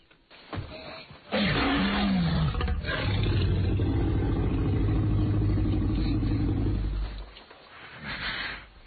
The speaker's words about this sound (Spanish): Efecto dinosaurio, clarísimo, un rugido y vamos con más cosas.